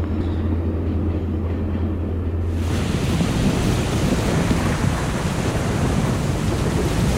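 A train passes about 100 metres away on the railway running along the shore of the Sea of Marmara, a steady broad roar that swells in after a few seconds of low hum and rushes on without pause. No one speaks.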